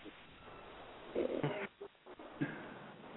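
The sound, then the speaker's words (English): A dog barks at visitors a few times in short, muffled bursts, a cluster of yelps in the middle followed by one more bark, over a steady background hiss. “The dog join in too.”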